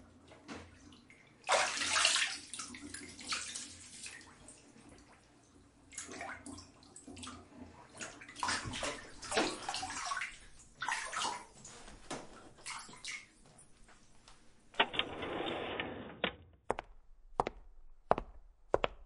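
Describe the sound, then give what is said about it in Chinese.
Water runs and splashes in uneven surges as something is rinsed, swelling and fading over several seconds, then a steadier gush before a few sharp drips or taps close it out. No one speaks. “洗干净了吗？让我看看。”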